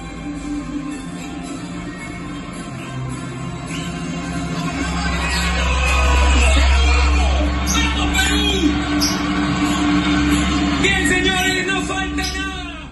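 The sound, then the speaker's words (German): A room full of fans in Lima, Peru cheers and shouts at a television broadcast of the teams walking out before a match, the noisy crowd swelling to a loud peak midway before settling into steady excited chatter and calls. “der in Peru vor dem Fernseher sitzt, in Lima, hat mir ein paar Szenen geschickt. Also noch nicht vom Spiel, aber vom Einmarsch sozusagen.”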